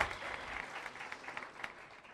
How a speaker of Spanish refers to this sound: Así que un aplauso de nuevo a Amway por todos esos cambios, todos esos implementos.